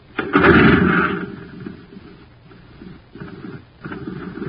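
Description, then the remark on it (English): A jet cycle engine running on ordinary fuel sputters and putters with a loud rough burst at first, then settles into choppy, uneven low pulses that fade and pick up again. No voices. “Say, gang, talk about a putt-putt. Just listen to this jet cycle.”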